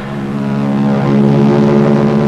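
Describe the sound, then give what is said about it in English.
A steady, droning engine roar from Royal Canadian Air Force aircraft, with a low, throbbing harmonic hum that swells slightly louder as they pass overhead, with no voices. “Then the Royal Canadian Air Force will fly overhead towing a 10-ton maraschino cherry, which will be dropped into the whipped cream to the cheering of 25,000 extras.”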